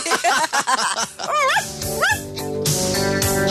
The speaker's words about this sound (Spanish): ¡Callen a la perra!